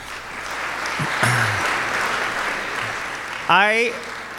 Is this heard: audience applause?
yes